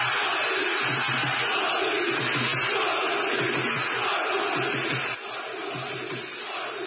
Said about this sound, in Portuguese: Em Portugal, após 19 anos de jejum, a 2 jornadas do fim do campeonato, os adeptos do Sporting puderam começar a gritar.